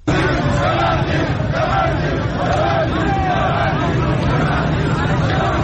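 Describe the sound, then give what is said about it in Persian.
A loud street crowd of protesting shopkeepers and people in Iran chants the slogan "Bebandid, bebandid" ("Close up") in unison, calling on business owners to join their protest rally. The massed voices rise in repeated rhythmic waves over a constant roar of shouting and babble. “ویدیوهای منتشر شده از این تجمع در شبکه‌های اجتماعی نشان می‌دهد که گروهی از کسبه و مردم در خیابان با سر دادن شعار ببندید ببندید از صاحبان کسب و کار می‌خواهند که به تجمع اعتراضی آنان بپیوندند.”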